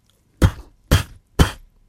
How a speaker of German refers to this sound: dann stellen wir uns jetzt vor, dass gerade in dieser Schenke, es ist Sturm draußen, es an der Tür geklopft hat.